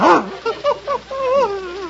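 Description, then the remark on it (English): An Airedale terrier gives a loud bark, then three short yips and a drawn-out, wavering whine, all alone with no one talking over it. “The Airedale that's going to work with you. Say hello to Mr. Montague”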